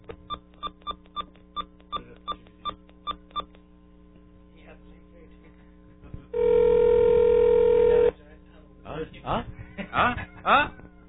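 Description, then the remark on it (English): A quick run of about ten phone keypad beeps dialing a 1-800 number, a pause, then a loud steady ringing tone for two seconds, followed by a recorded voice starting to say the number is not in service. “It's ringing.”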